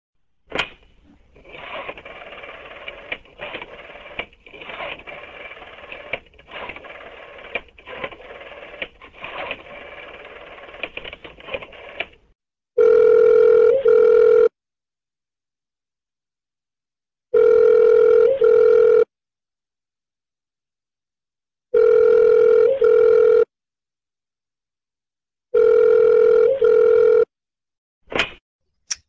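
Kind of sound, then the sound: signal or alarm, telephone call ringing tone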